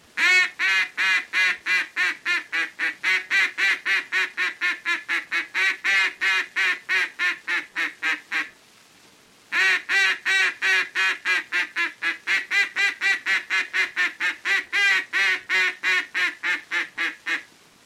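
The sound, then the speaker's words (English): A duck call blows the long call, or greeting call, a long, steady run of loud, evenly spaced quacks, pausing once for about a second before a second long series of quacks, with no talking. “Now, the first call to use is the long call or greeting call, and should be made only to ducks at quite some distance away, but should never be given when the ducks are in close.”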